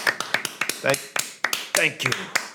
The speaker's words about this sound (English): Oh, are you doing your loud clap again that everyone hates? Oh, my God.